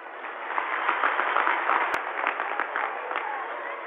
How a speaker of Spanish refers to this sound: Por eso los aplaudimos de todo corazón.